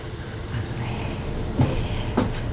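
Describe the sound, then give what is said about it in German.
A door handle is tried with two short, sharp clicks about half a second apart as the unlocked door to a swimming pool comes open, over a steady low rumble of background noise. “Aber die Tür ist nicht verschlossen.”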